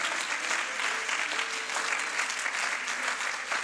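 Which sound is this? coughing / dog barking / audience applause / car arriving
audience applause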